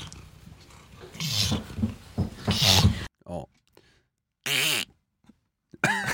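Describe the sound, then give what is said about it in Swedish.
A cat named Fluff, who cannot meow, hisses instead: several short, harsh, breathy bursts, fairly loud and separated by pauses, with a brief spoken word from a person in between. “Katten Fluff kan inte mjaua. Istället för att ta toner så fräser hon.”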